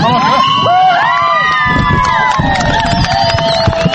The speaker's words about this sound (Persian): این صدای خوشی و تشویق هواداران تیم ملی دختران افغانستان است که این تیم توانست در دقیقه 20 میدان اول نخستین گل را به ثمر برساند.